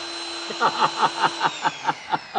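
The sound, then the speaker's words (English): A power drill whirs with a steady high whine, pulsing in quick, even bursts about five times a second as it runs. “I'll be glad to save you a few bucks because this drill Molly gave me”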